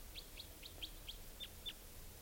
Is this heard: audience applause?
no